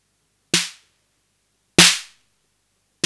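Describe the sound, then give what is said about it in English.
Normal, unmodified drum machine snare hits, each a sharp, bright noise burst over a short low tonal thump, decaying quickly. Two full hits about a second apart, a third beginning at the end. No talking. “That's a normal one.”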